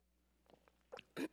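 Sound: sipping tea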